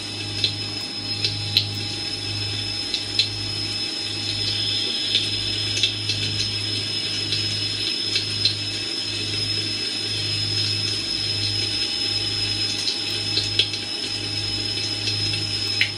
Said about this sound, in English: That sound effect is actually the sound of water coming from a drain.